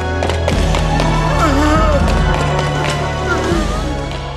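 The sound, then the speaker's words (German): Hurried running footsteps of men approaching through a cave patter steadily over a dense, busy background, with faint voices and a low droning tone underneath; the steps keep going throughout. “Hört ihr das? Das sind Schritte.”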